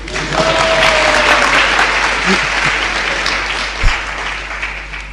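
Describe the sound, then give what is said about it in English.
A group applauds the girls' side after they sang a verse, with steady, dense clapping that holds at an even loudness for about five seconds, with a few faint voices and a brief tone mixed in. “Do they deserve a clap?”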